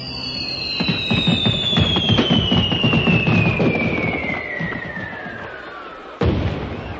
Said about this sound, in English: Start the fireworks. Get going. Light the touch papers.